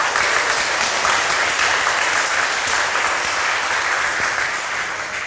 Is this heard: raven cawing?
no